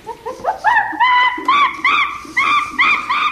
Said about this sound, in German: Und ein anderes ist von einem Schimpans.